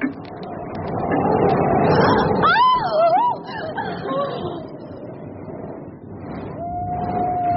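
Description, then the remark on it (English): Several wavering, rising-and-falling wolf howls rise over a dense, rushing background, followed later by a single long, steady howl near the end. “The wolves are running.”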